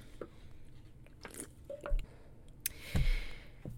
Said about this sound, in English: Hold on, sips time.